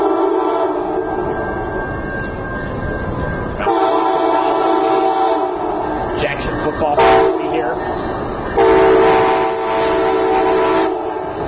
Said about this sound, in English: Man, that is a loud train passing right by us. Passenger train as well.